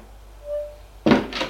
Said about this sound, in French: Elle ouvre une porte, ils entrent.